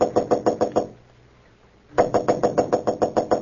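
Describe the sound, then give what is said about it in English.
Quick, firm knocking by Clark Kent on the door of room 911 at the Marlborough Hotel in Marsden City: a run of about six raps, a short pause, then a longer, steady burst of rapid knocks, fairly loud with no voices. “Roebling aboard a Metropolis-bound train to room 911 at the Marlborough Hotel in Marsden City, Clark Kent was about to knock at the door when suddenly he blanched.”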